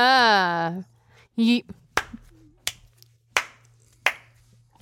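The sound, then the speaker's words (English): Five sharp, crisp hand claps land at a slow, even pace, each one a loud isolated crack. Beforehand a voice makes a drawn-out wordless sound and a short hum. “I'm condescendingly clapping. Can you tell? No, it sounds like a regular clap.”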